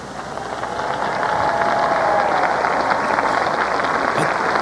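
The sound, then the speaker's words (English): A crowd applauding at a beatification after Pope John Paul II's greeting to English-speaking believers, a dense, steady wash of clapping that swells in and holds at an even level for several seconds, with no voices standing out above it. “That, it's very awkward applause.”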